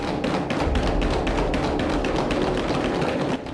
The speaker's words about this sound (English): They bang the palms of their hands on the table.